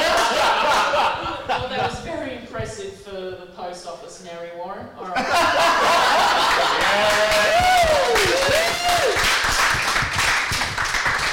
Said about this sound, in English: Give her applause, yes.